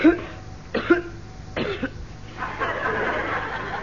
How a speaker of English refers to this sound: No, I just felt like coughing. Sort of clears my throat.